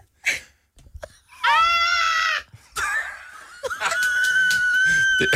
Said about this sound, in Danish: Var det dit bedste uluftede skrig? Ja. Altså, jeg ved ikke, om jeg overhovedet kan skrige.